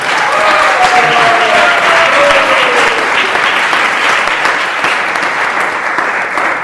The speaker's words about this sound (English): You can give a round of applause.